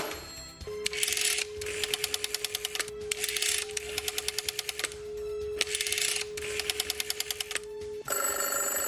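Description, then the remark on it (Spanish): A rotary telephone is dialed over a steady dial tone, with five bursts of rapid clicking pulses as the dial spins back. The call ends in a sudden loud, buzzing ring. “Bueno, pues exacto, ya no hay teléfonos de ruedas, así que no podemos marcarlos”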